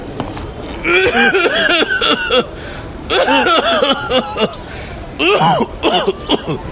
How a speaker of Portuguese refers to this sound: Estás a tossir sangue, meu velho Moazil. Não chega perto, afasta-te. O que é que dizem? Tinhas razão, meu amigo. Disseram que tenho tuberculose grave.